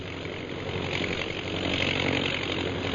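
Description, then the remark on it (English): A steady, throbbing drone of ten propeller bombing planes flying low overhead, the engine roar swelling slightly louder midway and holding on without any voices. “10 bombing planes, eh?”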